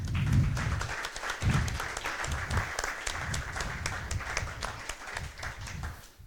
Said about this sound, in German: Einen großen Applaus erstmal.